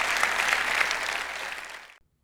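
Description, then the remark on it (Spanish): An audience at Iglesia La Roca y Alcance Mundial applauds the Lord together, a dense wash of many hands clapping that holds steady, gradually thins and softens, then stops abruptly into silence. “Y Dios habló, da un aplauso al Señor en ese día.”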